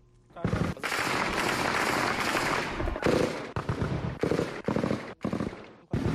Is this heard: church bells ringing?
no